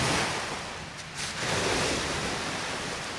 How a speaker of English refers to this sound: It's a model of the real, quiet beach town of Seaside, Oregon, population 6,000. At the other end of the pool, the wave machine kicks up a hump of water. It rolls silently and mindlessly, and then it crashes into town.